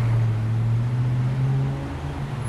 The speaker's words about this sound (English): But only 1 in 10 of these bus riders will walk or bike home tonight. The rest pile into their cars and drive home.